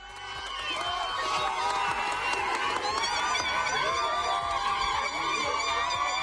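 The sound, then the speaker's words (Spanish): A crowd of hundreds of people cheers and applauds loudly and without pause at midnight as border crossings reopen, a dense wash of overlapping shouts and high, shrill calls that swells in over the first second and stays strong throughout. “Y ya lo escuchas, cientos de personas aplaudían esta medianoche cuando se abrían de nuevo los pasos fronterizos.”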